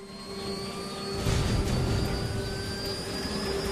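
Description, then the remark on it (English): A grey helicopter's engine runs as it prepares to take off, a steady turbine whine over a deep rumbling roar that swells louder after about a second and holds. No voices are heard. “Logan straps himself into a seat in the rear and then signals for the helicopter to take off.”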